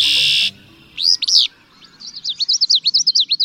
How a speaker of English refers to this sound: Three different birds are singing across a marsh. One bird's voice comes across as a brassy conkeree. A second sounds like a sneeze. And the third voice has a galloping rhythm.